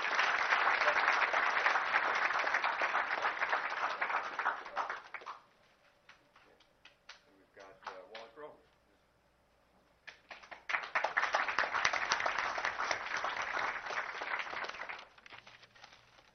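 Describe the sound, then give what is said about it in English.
An audience applauds a retiring school staff member who is not present, breaking into loud applause for about five seconds, falling quiet with a few scattered claps and faint murmurs, then erupting into a second strong round of clapping that gradually fades. “So I'd like to for us to give her an applause, even though she is not present at this time.”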